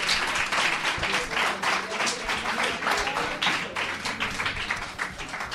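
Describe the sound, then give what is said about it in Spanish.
Steady applause from an audience for a guest at the end of an interview on a program, a dense wash of many hands clapping at an even level for several seconds, with no voices standing out. “Un aplauso para ella.”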